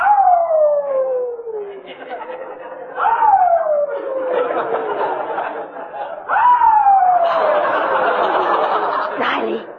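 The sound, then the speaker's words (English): A new puppy in a garage howls three times in a row late at night, each a drawn-out wail sliding downward in pitch. It is fairly loud, with a rough, noisy background between the cries. “do you hear that dog?”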